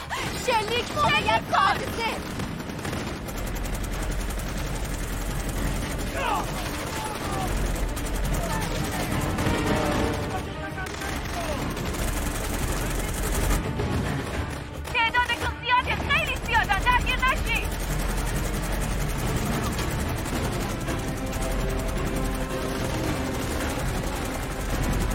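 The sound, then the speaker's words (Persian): Rapid bursts of machine-gun fire and scattered gunshots crackle almost nonstop over a heavy low rumble, loud, as the speakers are being shot at, while voices talk and shout through the chaos. “دارم بهمون شلیک میکنن.”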